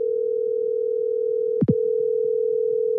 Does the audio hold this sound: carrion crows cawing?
no